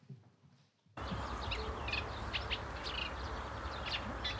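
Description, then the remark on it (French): A reed warbler sings a chattering run of short, repeated chirps and churrs with a recurring motif and a few imitations, against a steady wash of outdoor background noise, starting abruptly after a brief quiet moment, at daybreak in early July on the banks of the Lac de Bray. “Voilà, donc là on a un chant, la rousserolle.”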